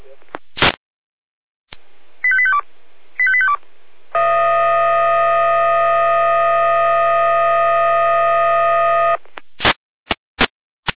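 An emergency alerting tone over a radio: two quick bursts of stepped beeping tones, then a loud, steady, buzzy tone held for about five seconds, framed by sharp radio clicks.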